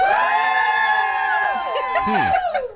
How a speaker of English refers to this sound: Okay, if you think I'm having a girl, cheer.